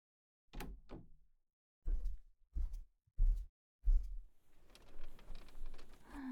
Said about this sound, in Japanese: ドア閉めて。